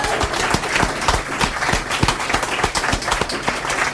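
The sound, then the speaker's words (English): An audience applauds itself and everybody else steadily, a dense crackle of many hands clapping at a fairly loud, even level for the whole stretch, with no one speaking over it. “And if you're not tired of clapping, and you shouldn't be, give yourselves and everybody else a wonderful hand.”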